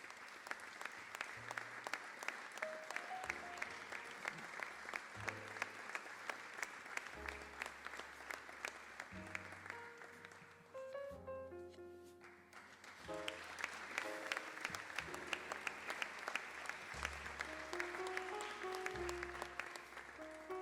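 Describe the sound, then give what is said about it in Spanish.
Sustained audience applause for the first-prize winner of a children's drawing contest, a dense steady patter of clapping lasting about twenty seconds, with upbeat music playing underneath and a brief dip in the clapping midway before it swells again. “Y el aplauso también para el primer premio,”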